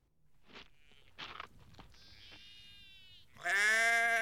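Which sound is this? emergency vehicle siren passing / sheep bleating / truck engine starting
sheep bleating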